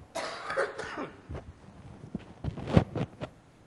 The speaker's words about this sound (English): I'm coughing like some of you, probably getting over being sick.